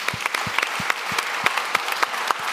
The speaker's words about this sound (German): ja, da kann man klatschen.